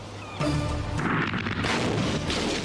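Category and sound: sound effect, explosion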